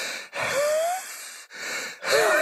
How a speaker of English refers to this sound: Oh, is that not silently? Yeah. Oh, sorry. Am I breathing really loudly in your ear?